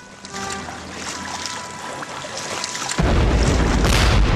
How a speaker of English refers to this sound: the first of Frankton's bombs began to go off. For the next 8 hours, successive explosions ripped holes in the sides of the blockade runners